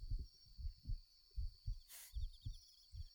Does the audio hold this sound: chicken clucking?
no